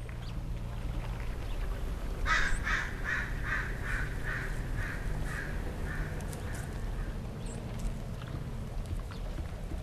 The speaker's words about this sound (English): Now, at Green Gulch, you might just let those bird songs flow in one ear and out the other. But not these birds. There you go. So keep watching. It's probably going to go right back on its nest. There's a person who loves that sound a whole lot.